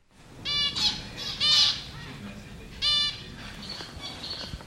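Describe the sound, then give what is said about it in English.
Small birds, some finches and a canary, squawk and chirp in short, harsh bursts at people in their space, several agitated calls with quieter twittering in between. “I mean, you can hear that some finches and a canary are more than a little peeved that we're in their space.”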